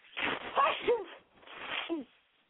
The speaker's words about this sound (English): Bless me. Yeah, I know, right? Big sneeze. I can't stand when the seasons change. My allergies just get up in the bench or whatever.